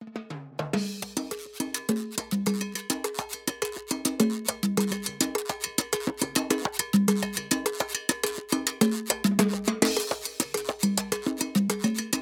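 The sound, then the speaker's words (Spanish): Driving salsa percussion: congas play tuned low-mid patterns under a steady, bright cowbell pulse, with dense rhythmic hits throughout and no voices. “Entonces escuchemos un poco de la percusión, especialmente en una parte que es salsa y hay otra parte que tiene una fusión en donde está el loop, pero conservamos la conga, campana, tiene su cuento.”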